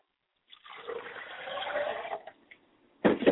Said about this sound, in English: I pour libation to the west, and I say, Ashe.